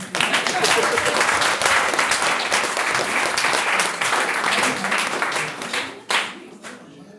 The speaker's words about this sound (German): Ihr seht auch hier ein weit gereister Coin, der 23 Länder besucht hat, fast 70.000 Kilometer zurückgelegt hat und dafür gibt es nicht nur eine Urkunde, ja, Beifall hier.